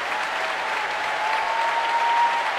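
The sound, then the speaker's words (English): Sustained applause from a large audience fills the Royal Albert Hall, a dense steady patter of many hands clapping at an even, loud level throughout with no voices, for Andrew Haviron leading the an orchestra. “And applause now for Andrew Haviron leading the … tonight.”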